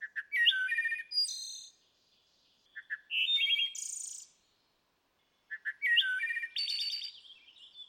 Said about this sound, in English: You also have the wood thrush from the east. Let's listen. It's one of the most iconic bird songs, this classic flute-like song, and it resonates through the forest and is just absolutely phenomenal to listen to.